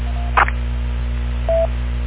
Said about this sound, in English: Todd, I hear your phone ringing. I don't know if you hear it. Maybe you want to answer that.